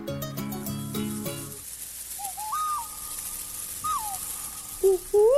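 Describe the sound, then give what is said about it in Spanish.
A quick run of low, resonant hoots opens, then sparse higher whistled calls rise and fall against a quiet background, like an owl calling with no one talking. “No sé qué es, un búho, un pajarito.”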